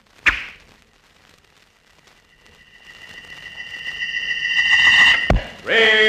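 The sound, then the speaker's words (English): A sharp snap as a gleaming arrow is loosed from a strong bow with a rawhide string, bent almost to breaking, at a flying target; then a shrill whistling whiz swells louder for several seconds before ending in a hard thunk as the arrow strikes. A voice begins right after. “Keen eyes fixed on a flying target, a gleaming arrow set against a rawhide string, a strong bow bent almost to the breaking point, and then”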